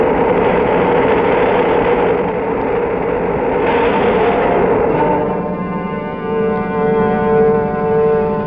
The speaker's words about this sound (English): We are counting down starting now. 13, 12, 11, 10, 9, ignition sequence starting. 5, 4, we have ignition, all engines are running. We have a liftoff.